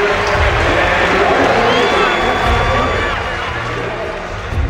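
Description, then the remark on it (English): A huge stadium crowd at the U.S. Olympic trials roars and cheers continuously as Dan O'Brien comes home to make the U.S. Olympic team, a loud, dense wash of voices with whistles and shouts rising through it, holding steady before easing slightly at the end. “Let's let the crowd carry him home here.”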